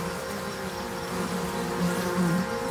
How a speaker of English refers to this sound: Its severed trunk lies nearby. Flies swarm on the carcass.